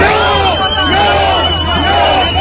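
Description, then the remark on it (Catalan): About 200 far-right demonstrators and antifascist groups shout at each other in Plaça Catalunya in central Olot on Saturday midday, under a heavy Mossos d'Esquadra police presence: many voices overlapping in an angry, sustained roar with rising and falling chant-like surges and a steady low rumble beneath. “Aquests són els crits que se sentien al centre de la capital aquest dissabte al migdia en un ambient especialment crispat i que els Mossos van aconseguir evitar que la cosa anés a més.”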